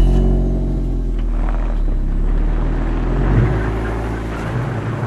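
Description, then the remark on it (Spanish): A car engine hums steadily while driving, a low, continuous drone with slight shifts in pitch as it moves along, fairly loud with no voices. “Eso sí, hay que coger el coche y viajar.”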